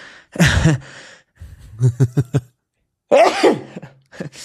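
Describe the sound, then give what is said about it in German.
A person sneezes: a loud, voiced burst, then a run of quick, hitching breaths and a second forceful sneeze, followed by the start of another breathy sound. No talking. “Warte kurz, ich muss niesen.”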